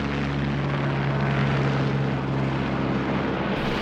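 A flying taxi being tested in New York, USA, drones steadily overhead. Its rotors produce a loud, continuous whir with a low humming tone and broad rushing noise throughout, with no voices.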